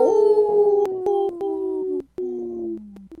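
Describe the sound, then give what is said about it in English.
A man on a radio show imitates a wolf howl, a long sustained tone that slides slowly downward with a few breaks and wavers, loud, with no other talk. “Good one, …. Good howl.”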